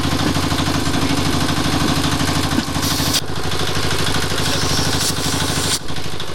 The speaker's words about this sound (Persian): صدای تانک ها در شهر کابل شنیده شده و کودتای نظامی علیه نظام داوود خان آغاز می گردد.